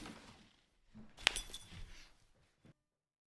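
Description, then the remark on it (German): Bottles of Pils Premium beer from the Rosenbrauerei Pößneck brewery clink together in a toast: one bright, sharp glassy knock with a short ringing tail, framed by soft handling noise and rustling before and after. “Und ich bin so froh, mit dir jetzt von der Rosenbrauerei Pößneck ein Bier zu trinken. Prost!”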